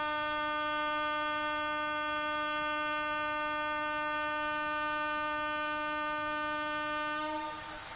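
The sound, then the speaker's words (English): A train horn blares in one long, unbroken tone with a rich stack of steady harmonics, holding loud for about seven seconds before cutting off into a brief fading rumble. “Let us say Haribo louder than this train said, to counteract the effect.”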